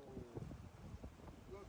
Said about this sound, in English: These are waves in the North Sea.